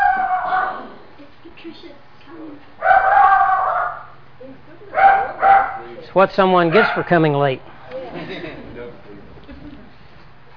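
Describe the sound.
A small dog barks sharply in several quick bursts, fairly loud, its yaps rising in pitch, while a person talks in the background.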